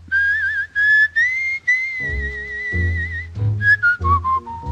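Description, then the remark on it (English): A bright, wavering whistled melody rides over a song's instrumental backing, sustained notes sliding between pitches, loud and up front with a steady bass pulse underneath and no voices. “But if we're just talking about the song, I love a song with a good whistle break.”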